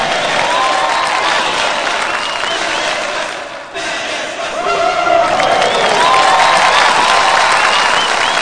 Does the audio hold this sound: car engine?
no